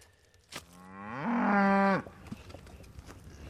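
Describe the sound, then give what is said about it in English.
A single long, loud cow moo on a family cattle ranch, rising in pitch and holding for more than a second before cutting off, followed by faint outdoor background noise. “Yeah, here's the cows that we worked yesterday.”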